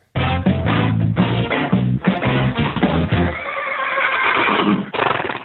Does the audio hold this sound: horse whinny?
yes